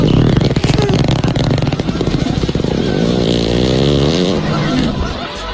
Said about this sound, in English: Hippo fart! That hippo let it fly. And the zookeeper knew it. What he's saying there is get back, get back, get back, get back.